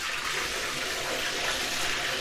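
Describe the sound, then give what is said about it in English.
Bath water pours steadily right beside a narrow stereo microphone placed right next to and on the water, a loud, close, continuous rushing and splashing that fills the whole short stretch without pause. “I can, like, put it right on the water.”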